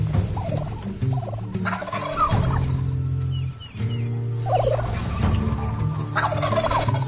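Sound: wild turkey males gobbling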